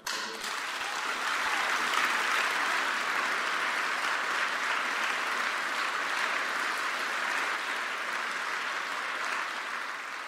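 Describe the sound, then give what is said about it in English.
Sustained audience applause welcoming Ralph Nader to give his speech, a dense wash of many hands clapping that holds steady and loud for about ten seconds with no talking over it. “Please give a rounding applause to Ralph Nader, our hero.”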